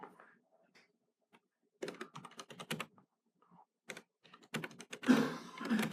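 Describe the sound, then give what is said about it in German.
Clatter of fingers typing on a computer keyboard, coming in quick uneven bursts of keystrokes separated by short pauses, growing denser and louder toward the end. “Man soll nicht zu schnell tippen.”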